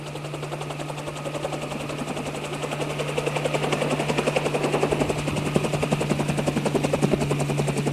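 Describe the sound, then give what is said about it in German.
A landed helicopter's rotors thump in a rapid, steady rhythm over a constant engine hum, loud, growing slightly stronger over the seconds with no one speaking. “So, der Heli soll mal seine Propeller abstellen”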